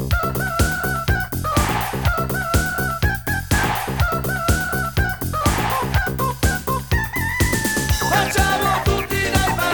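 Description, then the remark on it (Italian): A rooster crows loudly and repeatedly, its calls following one after another in a busy, dense stretch of sound with no one talking. “Il gallo, poi, mi raccomando, essere più chiari, perché anche il testo...”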